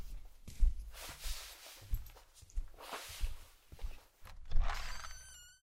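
Regular footsteps thud at a steady walking pace, growing somewhat louder as if drawing closer, followed by a brief high squeak near the end. No one speaks.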